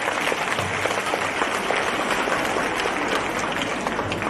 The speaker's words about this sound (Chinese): 让我们再次用最热烈的掌声感恩大慈大悲的卢军宏台长。